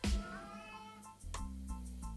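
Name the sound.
cat meowing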